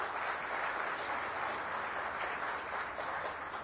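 Steady, dense clapping from a crowd fills the space, a sustained wash of many hands applauding at even loudness with no voices on top.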